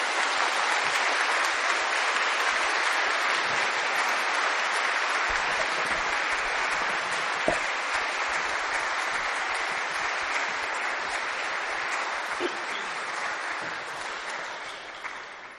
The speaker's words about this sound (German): Und ich finde, an dieser Stelle könnten wir den Krippenspielkindern schon mal einen kräftigen Applaus als Dankeschön geben.